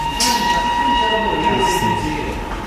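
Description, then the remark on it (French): A train rumbles steadily through the railway station at Bardonecchia after 9 p.m., with sustained metallic tones ringing above a broad low roar. Faint voices murmur underneath the continuous mechanical noise. “À Bardonecchia, passé 21h, les trains circulent encore, mais la gare est fermée jusqu'au lendemain matin.”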